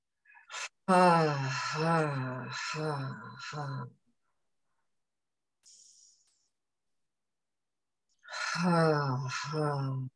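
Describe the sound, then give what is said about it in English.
A quick breath in through the nose is followed by a long, low voiced sigh out through slightly parted lips, sounded from low in the belly. After a quiet pause with a faint breath, another deep humming exhale begins. “Breathing in through the nose. And maybe on the exhale, layer in a little sound just from low down in the belly, just let something out.”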